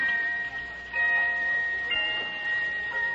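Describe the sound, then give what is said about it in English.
A pocket watch chimes with bright, high, bell-like tones that ring and sustain, renewing in strokes roughly a second apart over a soft ticking. No one speaks. “Listen. Listen to it chime.”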